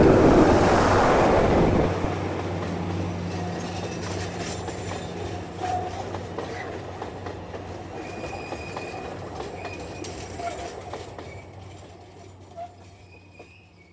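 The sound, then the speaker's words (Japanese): A train bound for Xinbei rumbles past, loudest at the start with a broad roar, then steady rolling wheel noise and occasional metallic clicks and faint squeals as it fades away. “どうやら新北行きの列車が来たようですね。ちょっと通過音を聞いてみましょう。”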